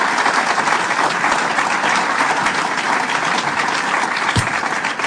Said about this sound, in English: And let's give them a round of applause for the great, great work that they have done.